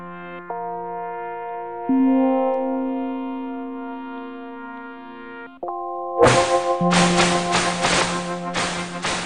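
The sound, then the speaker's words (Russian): Sound effects from a Sega video game about a dolphin, of dolphins leaping from water: steady synthesized electronic tones, then a run of loud, hissy splash bursts over a continuing buzzy hum, with no talking. “Вот эти вот звуки, это дельфины выпрыгивают из воды якобы.”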